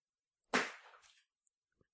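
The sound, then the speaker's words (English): A single sharp, loud smack of a shoe striking something, with a bright, brief decay. A couple of faint ticks follow in otherwise quiet surroundings, with no voices. “That was a shoe.”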